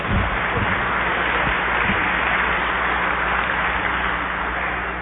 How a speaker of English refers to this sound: Yeah, what the heck, it's good, and let's just go ahead and clap when they get it.